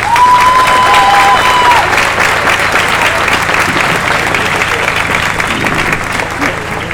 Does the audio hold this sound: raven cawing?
no